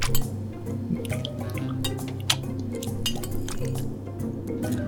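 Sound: dishes clinking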